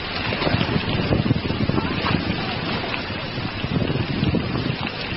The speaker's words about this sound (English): It looked like the rainstorm's going to pass, and it hasn't passed. It hasn't passed at all. It's very, very heavy, and I'm soaked through the skin.